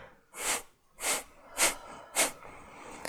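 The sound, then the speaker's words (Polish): A person takes four deep, quick breaths in a steady rhythm, each a broad rushing whoosh of air, with short quiet gaps between them and no talking. “Zrób kilka głębszych, szybszych oddechów.”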